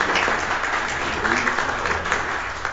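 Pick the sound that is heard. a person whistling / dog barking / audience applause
audience applause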